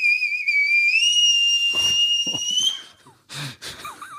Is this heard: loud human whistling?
yes